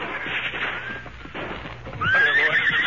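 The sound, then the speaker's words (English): A horse whinnies loudly, its high wavering call rising near the end, over a busy background of hoofbeats clip-clopping and shuffling movement. The horses are Silver and Scout. “Where are the horses? Silver Scout, right here.”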